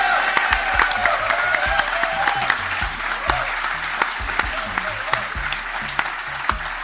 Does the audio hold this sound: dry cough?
no